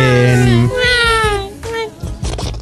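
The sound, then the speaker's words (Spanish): A newborn baby cries loudly, two shrill, drawn-out wails with a strained, cat-like quality, then a rougher, choppier stretch near the end. “Parecían gatos follando. Ha sido niña.”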